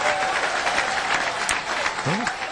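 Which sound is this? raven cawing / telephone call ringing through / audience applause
audience applause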